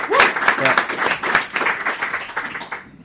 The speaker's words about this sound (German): wirklich vielen lieben Dank für eure Hilfe, dass ihr das hier möglich gemacht habt. Sehr, sehr cool. Wir haben unerwartet wenig Probleme gehabt bei der technischen Einrichtung des Podcasts. Wir waren völlig überrascht. Auch nochmal ein Applaus.